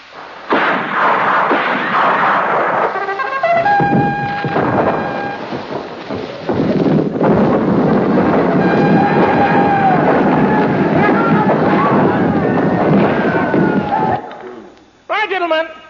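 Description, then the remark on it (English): A scratchy old military gramophone record, a recording of the Battle of Plassey: dense, rumbling artillery fire and explosions booming almost continuously, with a brief lull partway through and a sudden cutoff near the end. “Now, I'm going to play you a military gramophone record.”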